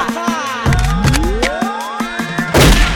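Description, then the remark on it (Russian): A rapid string of sharp, punchy gunshot effects cracks out over a rising synthetic sweep, ending in a louder, sustained blast. No one speaks. “One shot, brother, есть только один выстрел. И этот выстрел сделаем мы.”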